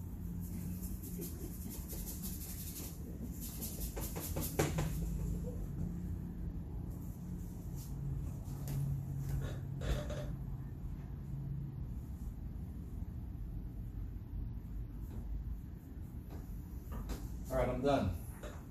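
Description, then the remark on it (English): A squeaky wooden easel, built by friends, creaks and squeaks as it is shifted about, with thumps and scraping over a steady low rumble and a few sharper squeals near the end. “I want to thank friends for building me this nice easel. This nice squeaky easel.”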